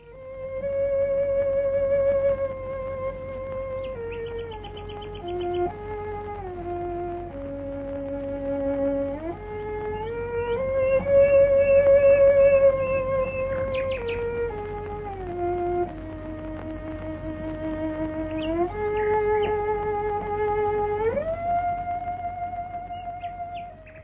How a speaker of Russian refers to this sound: одна виолончелистка Беатрис Харрисон, которая бродила ночью в саду со своим инструментом и играла народные песни под аккомпанемент соловья. Запись старая, но такая курьезная, что до сих пор ее передают по радио BBC.